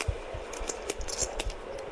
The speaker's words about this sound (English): All you're hearing is people shuffling their chips here.